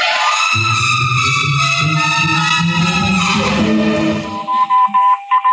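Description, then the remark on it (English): A dense, buzzing wash of radio noise gives way to a clear, steady tone keyed in short on-off pulses, a repeating Morse code SOS signal picked up on the radio and said to come from the moon, fairly loud. “He started on voice and switched to Morse. The way the signal repeats sounds like a phonograph record or automatic sender of some sort.”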